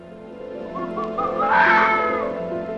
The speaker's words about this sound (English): Very eerie calls, and you can imagine that fox calls, especially anywhere people were living, would have been given rise to the kind of stories of banshees and ghosts and goblins in the woods, because it's a very unearthly cry when you hear it.